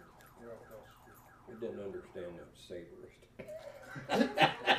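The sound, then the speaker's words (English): A car alarm goes off, cycling through rapid, repeating electronic tones that grow louder and harsher toward the end, with a faint voice murmuring underneath. “Got a car going off.”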